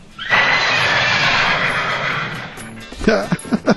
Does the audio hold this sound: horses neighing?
yes